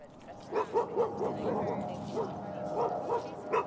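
Dogs, including a dog named Troy, bark and yip at a dog park in a quick, uneven run of short bursts, moderately loud, over a steady outdoor background murmur.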